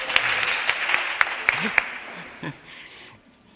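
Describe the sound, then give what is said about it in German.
An audience applauds, a dense, hissy patter of clapping punctuated by a few sharper claps. It holds steady for about two seconds, then thins out and fades to near quiet. “Also dir gebührt einen grossen Dank und eigentlich einen Applaus, dass du das so gut angebracht hast.”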